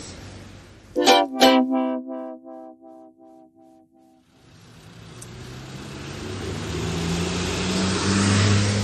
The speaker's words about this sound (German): Es wird mir jetzt hier doch zu laut, zu viele Autos.